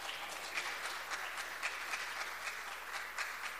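An audience at a church service applauds the Lord together, a dense, steady wash of many hands clapping at moderate volume, with no voices rising above it.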